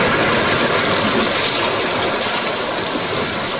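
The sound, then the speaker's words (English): A gale roars over the sea in a loud, unbroken rush of wind, steady and dense for the whole stretch, with no voices or other distinct sounds cutting through. “A gale that hammers us now.”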